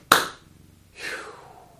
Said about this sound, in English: I'm going to count to three. After the count of three, you're welcome to clap with me to seal the work. One, two, three.